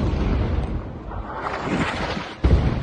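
explosions

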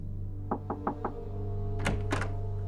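knocking on a door

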